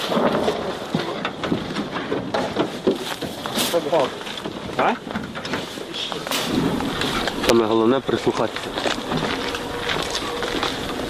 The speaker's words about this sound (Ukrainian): А оце вибухи були? Це їхні гради працювали.